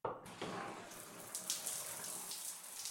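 Steady shower water running in a shower room for bathing, with a dense hiss of spray that starts abruptly and continues evenly throughout, with slight splashing variations and no voices.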